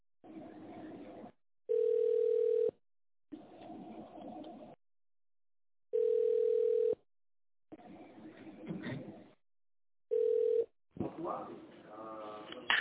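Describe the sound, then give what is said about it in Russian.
A telephone hold tone while waiting for an operator at the company Glavmostorg: three long, steady mid-pitched beeps, the last one shorter, alternating with softer stretches of chirping, cooing, bird-like sound over a thin telephone line. “Оставайтесь на линии и дождитесь ответа оператора.”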